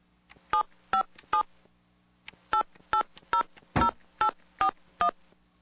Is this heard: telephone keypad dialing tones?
yes